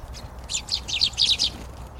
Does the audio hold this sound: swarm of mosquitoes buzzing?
no